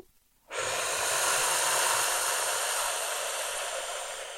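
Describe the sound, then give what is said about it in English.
A slow, deep inhale drawn in through the nose during mantra breathing, steady, lasting about four seconds after a brief silence, with no talking. “The inhale becomes so.”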